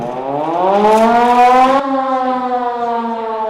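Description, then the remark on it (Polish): A loud civil defense siren winds up, signalling visitors that they must go down into a shelter, its wailing tone climbing steadily in pitch before leveling off into a sustained, droning howl with no voices. “Zastanowiliśmy się, ponieważ zawyła syrena.”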